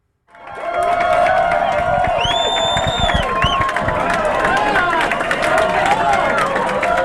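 A large crowd at Susan Crawford's election watch party at the Park Hotel in downtown Madison erupts into loud, sustained cheering on learning she was projected to win the state Supreme Court race, with high-pitched whoops and shrieks rising above a dense roar of voices and clapping that continues without a break.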